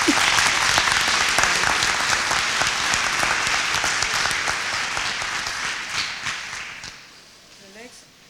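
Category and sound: crowd, audience applause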